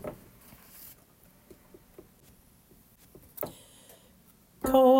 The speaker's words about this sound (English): On the dusty earth drum beats the falling rain. Now a whispered murmur, now a louder strain.